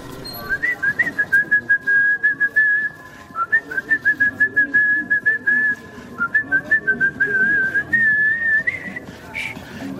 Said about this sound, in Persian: مقداری در سکوت راه رفتیم تا اینکه شروع کرد به سوت زدن.